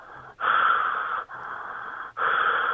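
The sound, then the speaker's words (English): Heavy, raspy breaths pushed into a phone, three long breaths in a slow in-out rhythm with brief gaps between, loud and airy with no talking, like an obscene phone caller, made as a prank call. “And the same thing, I'm just breathing heavily into the phone.”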